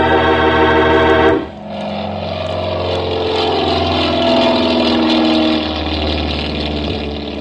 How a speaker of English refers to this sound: We went out onto the field and climbed into the plane. Then Ayers gunned the motor, and we were taking off.